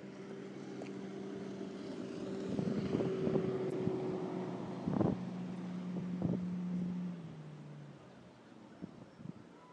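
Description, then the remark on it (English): A fast motorboat's engine drones across open water, its steady hum swelling as it draws nearer and passes, then fading away toward the end, with a few sharp knocks and wind noise. “I think it sounds like a fast boat coming along.”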